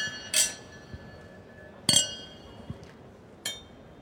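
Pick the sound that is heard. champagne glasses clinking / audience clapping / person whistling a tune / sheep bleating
champagne glasses clinking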